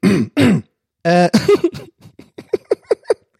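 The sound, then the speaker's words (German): A man clears his throat several times: two short rough bursts, a longer gravelly rasp, then a quick series of small rhythmic throat noises trailing off. “Ich muss heute viel räuspern.”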